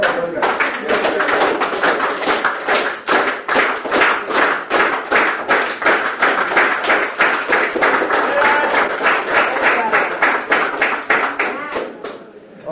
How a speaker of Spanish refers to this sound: Bien dicho. Un aplauso.